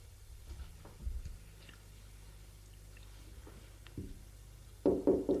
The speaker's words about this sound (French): On a frappé à la porte.